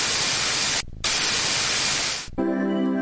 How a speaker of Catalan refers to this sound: Sembla ben interferències, però la gent que no.